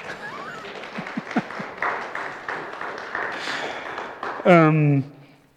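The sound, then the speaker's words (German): An audience claps for a birthday greeting in a steady, dense patter, with voices murmuring underneath and a loud sustained cheer rising briefly near the end. “Und ihr darf doch ruhig auch klatschen an der Stelle.”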